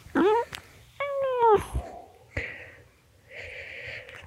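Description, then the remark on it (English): A black cat meows twice, loud into the lowered microphone: a short rising cry, then a longer drawn-out one. Softer snuffling, breathy sounds follow. “Kitty, do you want to say anything for the podcast? Here, let me get the mic down for you.”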